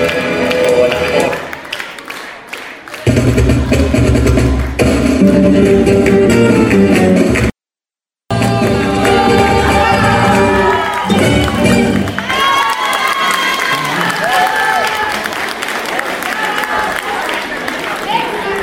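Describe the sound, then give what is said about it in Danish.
An audience applauds and cheers loudly and steadily to clap a female singer back on stage while an extra song is found, a dense wash of clapping and shouting voices that goes on for the whole stretch, with a brief cut to silence partway through. “Ved I hvad, vi er, mens de leder efter det nummer der, så klapper vi hende lige frem, ikke?”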